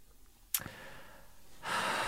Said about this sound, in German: Ich komme gerade in schwere Schnaufe, nicht?